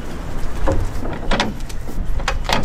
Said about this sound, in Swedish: Hon lossar på låsen och drar upp de stora dörrarna och nu ska vi öppna upp här, kontrollera lasten så att den sitter fast och så.